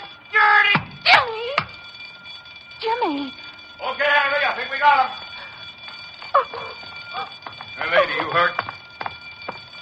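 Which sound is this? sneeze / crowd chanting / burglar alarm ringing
burglar alarm ringing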